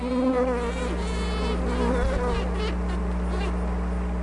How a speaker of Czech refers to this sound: Tak, to je tedy uklidňující zvuk, kterým dělnice komunikuje s ostatními včelami po návratu z vhodného místa, kde si všimla dostatečného množství pátraček. Ale co se děje dál? Na tento zvuk ostatní včely reagují zahřátím svalů potřebných k létání.